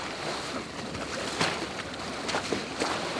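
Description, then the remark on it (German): Steady sloshing and rushing water as a small boat is towed through the water in the evening, with a few brief splashy surges standing out over the continuous wash. No voices. “Hinter mir ziehe ich das Boot nun her.”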